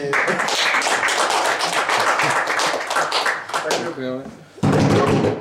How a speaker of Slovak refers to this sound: Zatleskajte tomuto človeku. Je treba tleskať? Môže. Ale zatleskajte, ona to čaká.